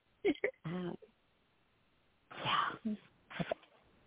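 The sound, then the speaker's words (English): A pet dog whines in a few short, pitched whimpers, a first cluster of bursts followed after a quiet pause by a louder, breathier second cluster. “Now let's hear your poem without my dog in the middle of it.”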